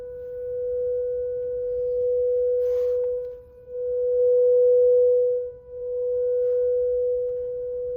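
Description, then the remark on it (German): A steady, continuous whistling tone from an Enyaq electric car, heard after it was switched on and put into reverse, holding one pitch for several seconds with two brief dips in volume, over a faint low rumble and no talking. “Ich musste ca. 4 Kilometer mit diesem Pfeifen fahren.”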